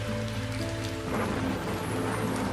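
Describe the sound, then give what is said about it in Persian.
Soft, steady rain patters continuously, a gentle hiss of falling drops layered over a low, sustained hum, with no voices present. “قطره‌های بارون آروم و آهسته روی دستات فروز میان.”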